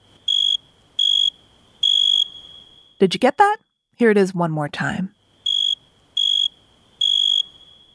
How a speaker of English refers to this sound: So, what's that sound? A cricket! Crickets make that chirp-chirp sound by rubbing their wings together. But did you know that it's only male crickets that can make that sound?